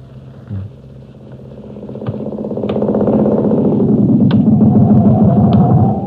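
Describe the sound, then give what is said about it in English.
A motorcycle engine idles roughly, then swells into a loud, steady rumbling drone that holds through to the end, with a few sharp mechanical clicks. No voices are heard. “Go right into the motorcycle.”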